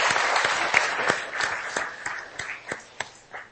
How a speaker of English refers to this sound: That deserves a big round of applause.